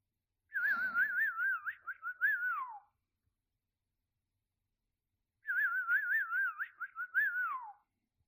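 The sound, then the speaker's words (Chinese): A person whistles two short, identical warbling phrases, each trilling quickly before sliding downward at the end, separated by a few seconds of silence. The whistling is clear and close, with no talking. “现在，我的小狗狗已经完全的失去了理智了，已经完全被主人的口哨声所支配着呢。”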